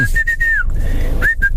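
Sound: person whistling a tune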